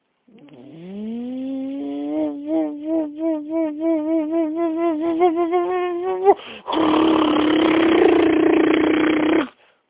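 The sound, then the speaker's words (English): A voice imitates a drilling machine put on turbo mode to drill at maximum speed: a rising, warbling hum that quickens into rapid pulses, then bursts into a loud, harsh, steady buzzing roar before stopping abruptly. “So he put it on turbo mode and wound up 3 extra turbo boosters to drill at the maximum speed.”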